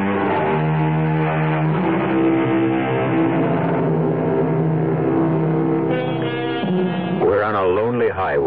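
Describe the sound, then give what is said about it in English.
The engine of a sleek white sports car, driving late at night through hilly country upstate, purrs in a steady, smooth drone that holds at a fairly constant pitch, then rises and dips in a few wavering revs toward the end. “Even the sound of its purring engine doesn't seem to disturb the quiet of the country”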